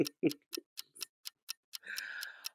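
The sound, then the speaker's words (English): A game clock timer ticks rapidly and evenly, about four crisp ticks per second. A brief low voice sounds at the start, and a steady buzzing tone joins the ticking near the end. “Clock starts now.”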